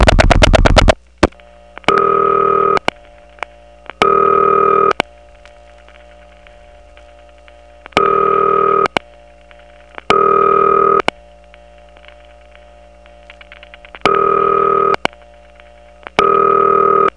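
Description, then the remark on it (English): Telephone ringback tone on a line from the Toco Hills exchange sounds in regular bursts, about a second each at two-second intervals, while the line's power supply carries a faint steady dial tone and reorder signal continuously underneath between the rings. No one speaks. “Now that it's ringing, you can hear one thing that is distinctive about Toco Hills, and that is that in between ring bursts, the power supply that's on the line isn't silent at all. It actually has dial tone and reorder in the background.”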